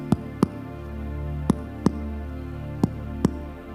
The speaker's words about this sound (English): That is your heartbeat. This one's mine.